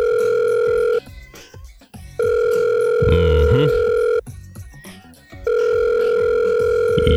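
An outgoing phone call's ringback tone as someone tries to reach a person by phone, a steady electronic purr repeating in long bursts with short pauses, heard three times, with some faint muffled voices partway through.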